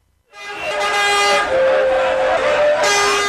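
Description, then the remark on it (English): Busy road traffic in Lagos, Nigeria, crowded with pedestrians, vendors, motorbikes and buses, with vehicle horns blaring in long, overlapping tones over a steady rumble of engines, loud and continuous for the whole stretch. “Pedestrians, vendors, motorbikes, and buses crowd a busy road in Lagos, Nigeria's largest city.”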